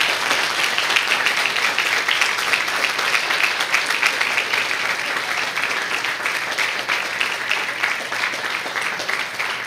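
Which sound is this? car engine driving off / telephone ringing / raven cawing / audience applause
audience applause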